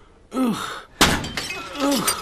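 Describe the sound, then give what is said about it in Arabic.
A sudden hard strike with a handheld object and a loud, bright burst of shattering glass as the glass is deliberately broken, with short vocal exclamations just before and a trailing crackle and another voiced sound after. “سأضع هذه هنا لكي لا يتطير الزجاج.”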